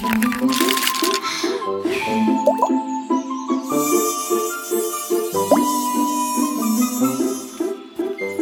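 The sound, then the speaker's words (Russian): Soft, bubbly plops and pops pile up in quick succession, like soap bubbles being blown and bursting, over a bright, tinkling musical background that runs throughout. “Раз так, давай пускать мыльные пузыри.”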